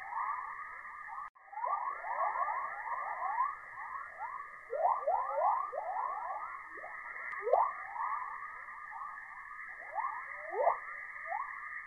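Rising-tone chorus radio emission from Earth's magnetosphere beyond the plasmasphere, thought to be caused by electrons moving toward Earth's night side through reconnection with the magnetotail: a dense stream of overlapping upward-sweeping chirps, like birdsong, over a steady hissing band, with no voices.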